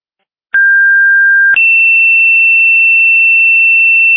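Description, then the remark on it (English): Two-tone pager alert sent to Sumner Ambulance as a second page for a call in Chipola: a steady, pure mid-pitched tone holds for about a second, then jumps straight to a higher steady tone that sustains for several seconds. No voices. “Attention, Sumner Ambulance, this is your second page.”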